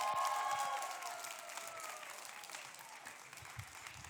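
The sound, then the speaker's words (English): A crowd applauds the music team at a church service, steady dense clapping that starts loud and slowly tapers, with faint whoops and a lingering musical tone fading underneath. “Give them a great momentum hand.”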